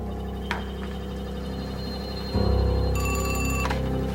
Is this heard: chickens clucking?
no